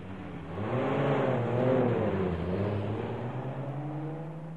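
A car engine revs up and pulls away, its hum rising in pitch before settling into a steady drone, moderately loud, with no voices.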